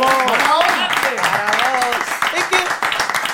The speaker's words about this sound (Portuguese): E o aplauso grande de anoite para María José Rodríguez, que vuelve a semana que viene.